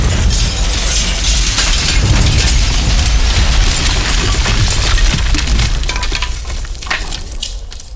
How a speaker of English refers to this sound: Somehow I got blowed out by the explosion. That hurt. Ow.